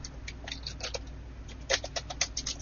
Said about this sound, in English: Well, we can hear you typing, but I answered and you were not there.